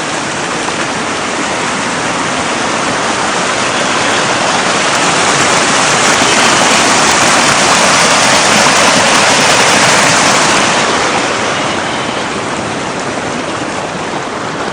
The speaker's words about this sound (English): Not as much ice as I thought. The creek is running very strong.